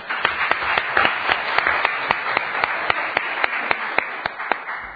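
A group of people applauding steadily for about five seconds, a dense patter of claps with sharper individual hand strikes standing out, fairly loud and with no voices over it.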